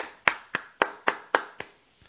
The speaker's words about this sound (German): Das soll Applaus sein. Ich hoffe, man hat das einigermaßen gehört.